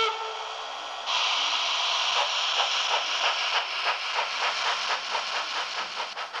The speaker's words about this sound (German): Und hier haben wir ein Pult mit Zügen. Also in der oberen Reihe kann man einen drücken und in der unteren Reihe. Und dann fährt zum Beispiel die alte Dampflok los.